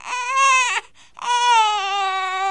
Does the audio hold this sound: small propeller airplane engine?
no